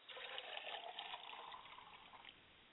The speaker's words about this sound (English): I pour libation to the east, and I say, Ashe. Ashe.